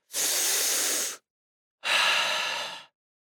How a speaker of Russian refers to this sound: Но перед тем, как мы начнем слушать наш аудиоурок, вспомним наши золотые правила. Дышим глубоко!